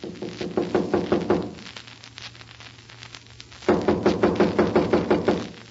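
knocking on a door

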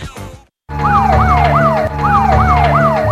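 police car siren

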